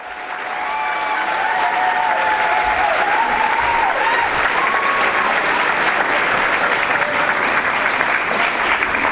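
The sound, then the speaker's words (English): Sustained applause from a sizable audience at a talk celebrating the 100th anniversary of the Russian Revolution, a dense steady patter of clapping that rises quickly and holds at full strength, with a few faint voices and whoops mixed in. “Rough crowd.”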